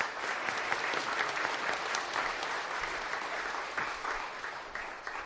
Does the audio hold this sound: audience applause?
yes